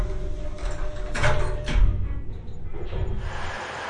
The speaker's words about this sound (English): Protect shield opens.